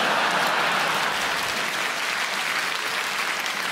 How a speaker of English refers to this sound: Like, yeah, I do love I get a round of applause always, and that as if we're going to, come on, we'll take them on.